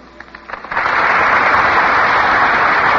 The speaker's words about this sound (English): Betty Davis and William Powell have just entered the stage from our right. The audience bursts into applause.